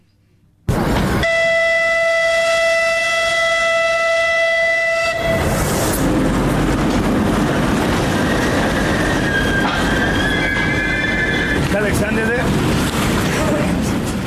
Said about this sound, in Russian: А в Николаев сегодня впервые с 24 февраля отправился пассажирский поезд из Киева.